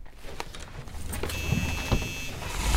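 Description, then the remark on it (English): A van starting up and being moved to a better spot, with a low engine rumble building under mechanical clicks, a thump like a door, and a steady high whine from the motor. “Let me at least move the van to a better spot.”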